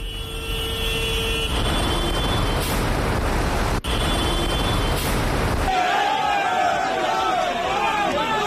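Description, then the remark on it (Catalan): Loud, steady rumble of many heavy tractor engines, some 423 tractors by police count (1,200 by organizers), rolling through streets of Lleida from 8 a.m., with horns tooting now and then and a crowd of voices mixed in; a wavering whistle-like tone rises near the end as they reach the doors of Acció Climàtica in Lleida. “Doncs avui uns 423 tractors, segons Mossos d'Esquadra i Guàrdia Urbana, i 1.200, segons els organitzadors”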